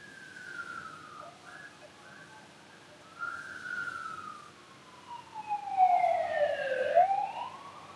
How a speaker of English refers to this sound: Noticing if the siren comes into your consciousness, let it be there. Don't resist it. Don't grab hold of it. It comes and it goes.